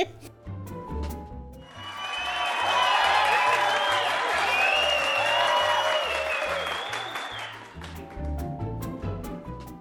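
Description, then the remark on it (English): A burst of applause and cheering from a crowd swells in, holds loud and dense for several seconds with whoops mixed in, then fades, over a steady low thumping beat. “Oh my God, and the sound of our cheering fans means it's time for listener comments.”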